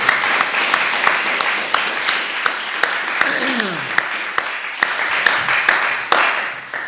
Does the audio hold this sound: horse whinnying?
no